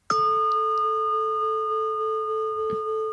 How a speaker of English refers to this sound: James might get his gong out in a second and play it, which I think he's about to do. So you can hear this gong that we've got because it's really good. Here we go.